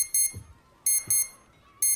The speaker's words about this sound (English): Curled up on the bed, Ray reaches for the alarm clock.